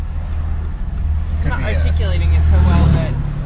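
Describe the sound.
A steady low road rumble of many oncoming cars passing the other way, with a gentle swell as a vehicle goes by, while voices talk over the noise in the second half.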